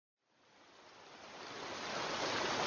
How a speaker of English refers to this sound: Clarissa brought Jack and Dean down to the river, where the water ran fast in a swirling froth of water and foam.